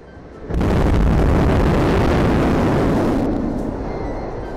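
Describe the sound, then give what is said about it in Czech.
The first static fire of the Super Heavy B9 rocket booster, on 6 August, erupts suddenly into a loud, steady roar of rumbling thunder for about three seconds, then the harsh edge cuts off as four engines shut down and the computer ends the test, leaving a fading low rumble. “Tehdy přišel vůbec první statický zážeh Super Heavy B9.”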